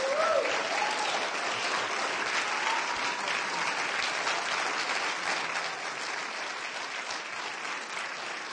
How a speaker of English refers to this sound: Why don't we just keep clapping and let's give it all to Him.